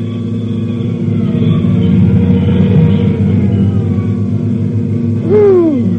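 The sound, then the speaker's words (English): Fire engines rumble past at night up 4th Street, answering an alarm from box 1167 at Morton and 3rd Streets, a loud, steady low engine roar filling the scene, with a brief rising-and-falling siren wail cutting in near the end. “Nobody will remember anything but the engine.”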